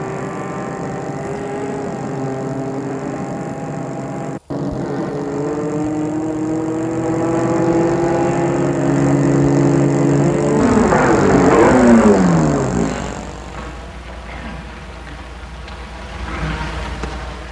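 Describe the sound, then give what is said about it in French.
A man's car engine hums steadily, swells as the car pulls up in front of a house on the boulevard des Belges in Lyon in the early morning before full daylight, then winds down and settles to a low idle as it comes to a stop. “L'homme va arrêter sa voiture devant une maison qui se trouve au boulevard des Belges.”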